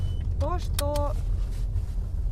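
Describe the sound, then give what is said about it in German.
A steady low rumble of a car driving in Ukraine, heard from inside, as a woman drives to a Ukrainian Post branch, with a couple of brief tonal chirps rising over the engine and road noise early on. “Sie springt in ihr Auto und fährt zu einer Filiale der ukrainischen Post.”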